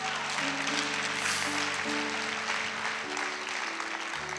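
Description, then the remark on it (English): A church audience claps for Jesus steadily and loudly for several seconds as a young man comes to give his life to the Lord, a dense wash of applause with sustained keyboard chords playing underneath. “Clap for Jesus.”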